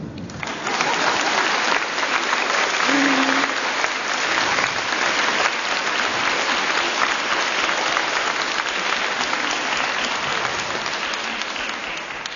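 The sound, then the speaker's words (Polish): Sustained audience applause for the custodian priest at a large church gathering, dense and steady for about twelve seconds, a crowd clapping loudly without pause and gradually easing slightly toward the end. “Kochany księdze Kustoszu, oklaski.”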